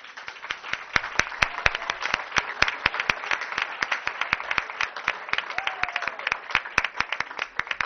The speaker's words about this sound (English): I'd also like everyone to give a round of applause to some very, very, very important people in the room, and that is the families of all those teachers.